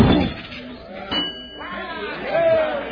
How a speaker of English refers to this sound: Well, what do you know? He rang the bell on the first try.